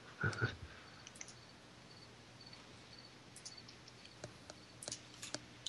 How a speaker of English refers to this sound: It's funny because we actually did hear crickets. It's such a question. The crickets just have to chime in.